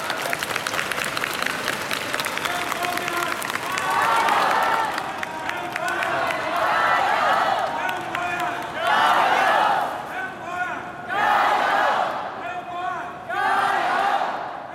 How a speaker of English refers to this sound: I'm here in the main arrivals hall of the Hong Kong airport, and there's a crowd of people just sitting here. They break into cheers.